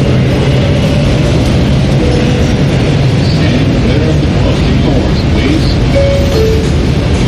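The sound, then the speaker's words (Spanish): A metro train rolls along with a loud, steady low rumble and rattle, broken by a couple of brief metallic squeals of wheels near the end, with faint murmured voices underneath. “Nos quedan 2 paradas.”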